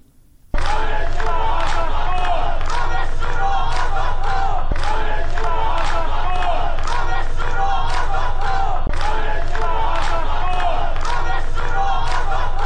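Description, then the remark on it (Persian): A large crowd chants a protest slogan in loud unison, in a recording released within the past hour, voices rising and falling in a steady repeated rhythm, with shouted syllables pulsing every second or so throughout. “شعاری رو میشنویم که همین ساعتی پیش منتشر شد.”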